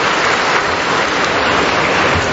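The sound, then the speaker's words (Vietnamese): A loud, steady burst of crowd applause greeting some audience members, many hands clapping at once into a dense, continuous crackle that fills the whole stretch, with no voices heard over it. “Vâng, chúng ta chào một tràng pháo tay thật to để chào những anh chị em ấy.”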